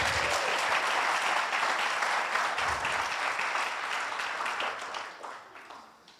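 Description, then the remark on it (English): A church audience applauds during a sermon, a dense wash of many hands clapping at once, holding steady and loud before gradually fading out over the last second or two. “And so if you hear clapping, even if you've zoned out and don't know what's going on, just start clapping, and I'll preach better, and you'll enjoy the sermon better.”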